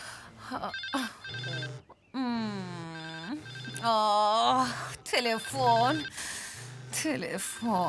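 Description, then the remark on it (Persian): A telephone rings with a warbling, melodic ringtone that repeats through the whole stretch, fairly loud, with voices and other indoor noise mixed in around it. “تلفن.”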